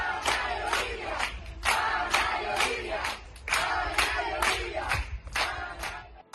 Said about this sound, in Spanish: los vecinos de la madre de las pequeñas han querido hacer este domingo un aplauso masivo en forma de apoyo.